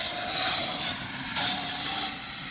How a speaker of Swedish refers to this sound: Nu kommer motorcykeln igen, då får vi flytta på oss. Han kör förbi här igen. Han gillar att köra här fram och tillbaka.